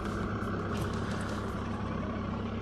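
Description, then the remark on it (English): A tractor loader's diesel engine roars steadily, a loud continuous mechanical rumble with a low droning hum, while it dumps dirt into a HESCO barrier, filled in about 10 tractor loads. No one speaks. “Okay, so we filled up the HESCO barrier. It took about, I don't know, 10 loads on the tractor, maybe a little bit more.”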